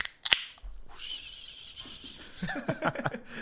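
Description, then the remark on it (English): A can of pineapple bubbly sparkling water cracks open with one sharp pop, then a steady fizzing hiss follows. Brief vocal sounds are audible near the end. “We have the pineapple bubbly.”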